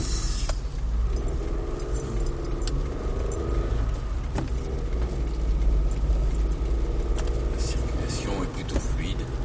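A car engine starts as rain begins to fall and settles into a steady low rumble. The hum holds throughout while scattered metallic jingles and clicks, like keys, sound over it.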